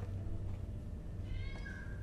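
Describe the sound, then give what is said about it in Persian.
A single drawn-out meow from a cat named Jasper rises and then holds a high, thin tone before fading, heard over a steady low hum with no one talking. “صدای جاسپره.”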